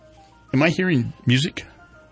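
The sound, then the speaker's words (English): A woman's phone ringtone plays a snippet of music: two loud, gliding melodic phrases separated by a short pause, then a brief final blip, with no one talking over it. “Somebody left a person here, and her phone's going off.”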